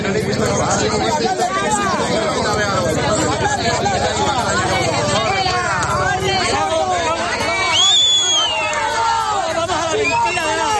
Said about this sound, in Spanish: Hasta Extremadura se desplazaba el presidente Pedro Sánchez para recorrer algunas zonas arrasadas por las llamas y los vecinos le recibieron con pitos y abucheos, también contra el presidente Fernández Vara.